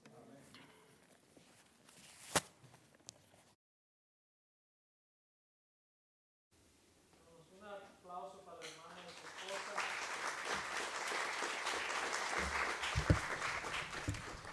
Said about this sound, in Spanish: Y ese aplauso sí nos puede pasar. Y ese sabemos que no es para él y su gloria, es que es fiel a predicar la palabra, hermanos.